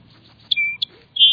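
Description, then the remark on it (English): A song sparrow sings a short, bright phrase: a sharp note, a sustained whistled trill, another quick note, then a high buzzy ending, clear over a low background hum. “Many birds, like this song sparrow, also thrive in dense, thorny blackberry thickets.”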